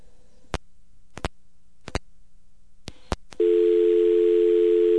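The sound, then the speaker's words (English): Several sharp clicks sound as a telephone call hangs up in Baker, California, then a loud, steady telephone dial tone takes over and hums continuously with a layer of hiss until the end. “Comes back to dial on this top shit.”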